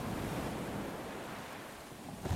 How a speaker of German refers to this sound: Schwarzes, dunkles Meer. Kein Kursboot, kein Franzose, kein Land, nur Wasser. Von Tiefe überschattetes Wasser.